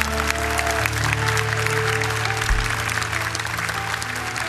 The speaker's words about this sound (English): So if you would go with them right now, now let us applaud for all these. It's their first time tonight. Show your love for them.